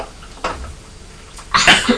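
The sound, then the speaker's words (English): A child gives two short, breathy coughs, a lighter one first and then a louder, rougher burst about a second later, with no talking around them. “That's right, you're coughing like Daddy, aren't you?”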